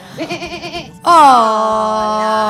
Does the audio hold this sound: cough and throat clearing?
no